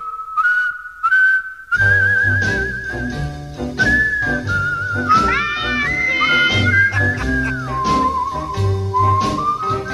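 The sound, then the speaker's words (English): A person whistles a clear, wavering melody, alone at first and then over a full instrumental backing that joins after a couple of seconds and carries on beneath the tune. “I'm the whistler.”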